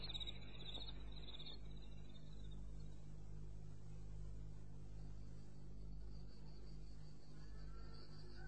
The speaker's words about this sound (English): left the farm to the crickets and the night birds.